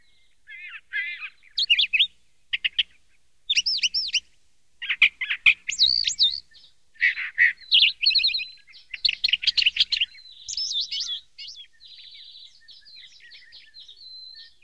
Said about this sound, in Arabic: إن هذا العصفور صديقي. صديقك؟ نعم، أفتح النافذة كل صباح لأنظر عليه وهو يغرد فوق الغصن، يقول لي كلاما كثيرا وأسجل على الورق بعض ما يقول.